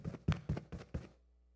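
Five firm knocks on a door in quick, fairly even succession, solid with a low thud to each, then silence.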